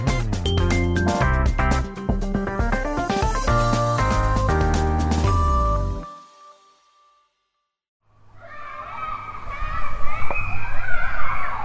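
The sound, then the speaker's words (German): After a stretch of music and a brief pause, a lively clamor of children playing in a garden and shouting in a stairwell rises up, their high voices overlapping. “Kinder spielen im Garten, lachen, schreien im Treppenhaus.”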